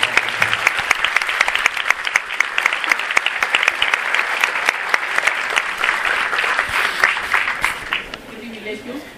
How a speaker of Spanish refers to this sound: Pues démosle un aplauso